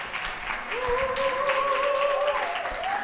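Steady audience applause sending off a guest fills the whole clip at a moderate level, a dense patter of many hands, with a sustained tone sliding in partway through and holding above it.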